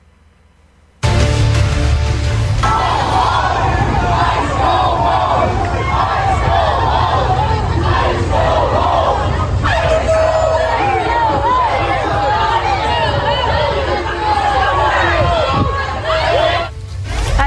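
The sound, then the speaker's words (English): A large crowd of residents shouts and yells together at about a dozen ICE agents stationed at the Columbia Heights Metro Station in Washington, D.C., driving them away: a loud, continuous roar of many overlapping voices that starts abruptly and stays intense throughout, with chants and cries rising above the din. “An incredible scene in the nation's capital this week when a crowd of residents drove away about a dozen ICE agents who were stationed at the Columbia Heights Metro Station.”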